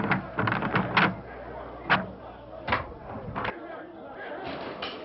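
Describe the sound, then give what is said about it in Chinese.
Noisy crowd clamor in the city of Jerusalem, many voices overlapping in a steady, restless din, broken by a few sharp bangs like a door knocking or slamming. “你去开门，听听耶路撒冷城那种吵闹声。”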